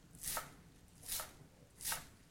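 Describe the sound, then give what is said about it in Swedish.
Three crisp chops of a very good knife through chives land on a cutting board at a slow, steady pace, each a short bright swish-and-tap, fairly quiet, with no voices. “Man hör Det är gräslök då. Så jag hackar den.”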